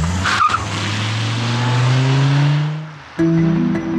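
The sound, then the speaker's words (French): A car engine revs up as the vehicle pulls off, its pitch climbing steadily before a quick gear change and a renewed surge, with faint tire noise and no voices. “Ils vont partir en voiture ensemble.”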